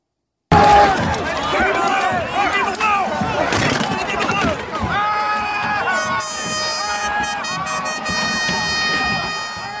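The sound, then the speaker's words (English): A large, agitated mob attacking police shouts and cheers loudly and continuously as a chair is thrown at an officer, with chaotic clatter and scuffling, and steady horn-like tones blaring over the din in the second half. “I want to warn you, you're about to see the mob attacking police, throwing a chair at one officer and cheering when he's hit.”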